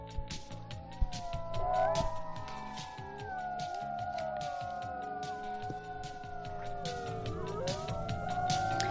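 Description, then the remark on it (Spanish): Several animal howls overlap in a sustained chorus, long gliding tones rising and falling at different pitches, steady and fairly loud for the whole stretch, with no talking. “Con estos aullidos viene nuestro biólogo Fernando López Mirones.”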